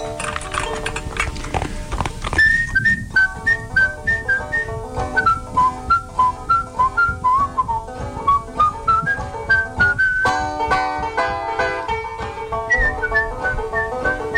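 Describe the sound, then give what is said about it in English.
A farmer on a road whistles a clear, bright melody that wanders up and down over a steady, rhythmic clip-clop of horse hooves, starting after a couple of seconds and continuing throughout. “You see, there's a farmer walking down the road one day, and he was whistling a tune to himself.”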